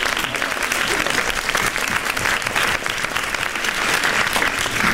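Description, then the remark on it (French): Sustained applause from an audience greeting a young actor who is present and invited to stand, a dense, steady clatter of many hands clapping at once, loud and continuous without pause. “On peut l'applaudir, il peut se lever puisque elle est toi qui est ici pour te voir.”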